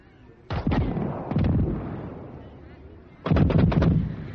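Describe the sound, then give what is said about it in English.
Fireworks bursting in three loud volleys, three giant showers of colour, each a quick cluster of sharp cracks and pops followed by a rumbling decay, with a longer pause before the final crackling flurry. “It's still shooting. 1, 2, 3 giant showers of color.”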